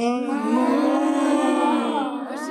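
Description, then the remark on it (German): A long, loud bovine moo drawn out for a couple of seconds, steady and resonant with a slight dip and rise in pitch near the end, with no talking. “Und schaut mal, da sind jetzt ganz viele Kühe.”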